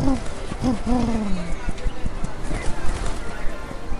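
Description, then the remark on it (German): Pigeons coo in low, wavering tones at the start, followed by a busy, rapid clatter of flapping wings as the flock takes off to follow a person carrying a dürüm outside, steady until the end. “Und jetzt seht ihr mal, wie die Tauben darauf abfahren, denn ich gehe jetzt raus mit dem Ding und alle Tauben fliegen hinterher.”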